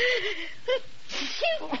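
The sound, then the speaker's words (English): A sneeze, with a short breathy intake and a voiced, whiny build-up leading into a burst of noisy air near the middle. “Gesundheit.”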